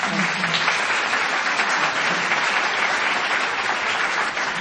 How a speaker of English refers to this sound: Well, I don't know what you're clapping for, but it was so exciting.